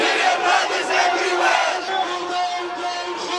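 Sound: crowd of protesters chanting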